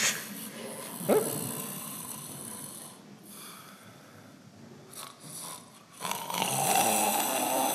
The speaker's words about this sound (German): Sie sehen da unten das Vibrieren. Ja? Der hat da oben eindeutig ein Problem. Aber horchen Sie mal hin. Der hat zwei Schnarchgeräusche. Einmal und einmal.